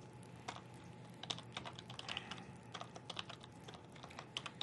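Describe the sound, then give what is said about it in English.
Steady keyboard typing with quick, irregular clicks of keys for several seconds, moderately quiet, over a low background hum with no talking, as someone logs on to a PowerShell Web Access site. “A hard morning for typing around.”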